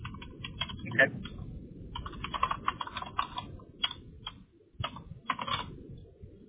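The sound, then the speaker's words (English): Rapid, irregular keystrokes clatter on a computer keyboard, fairly quiet, in bursts with brief pauses over a low background hum, as someone fills in blanks and checkoff items. “And apparently I'm typing challenged today.”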